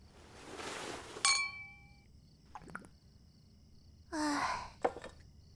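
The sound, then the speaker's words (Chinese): A single bright clink of glasses touching in a toast, its ringing tone lingering briefly, surrounded by soft breathy sighs and quiet rustling; no one speaks. “来，再干杯。”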